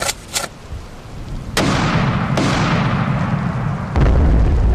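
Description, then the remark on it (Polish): A sharp crack is followed by a heavy explosion that erupts into a long, loud rumbling roar, with another blast and more booming tails as an enemy truck approaching troop positions is hit. No voices. “Na wasze pozycje zbliża się wroga ciężarówka. Zrozumiałem, paczka w dostawie.”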